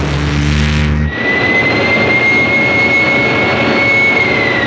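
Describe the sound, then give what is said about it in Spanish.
Powerful gunboat engines roar loudly and continuously as the gunboats change course. A deep rumbling drone shifts after a second into a broader, rushing growl with a steady whine over it. No one speaks. “Las lanchas cañoneras viran de rumbo.”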